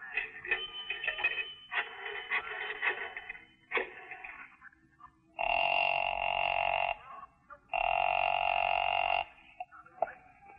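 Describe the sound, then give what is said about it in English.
A 10-cent coin drops into a payphone and a dial clicks through several numbers, followed by two long, steady ringing tones on the line, fairly loud with short gaps between. “I stopped to look up an address in the phone book, and then I invested 10 cents.”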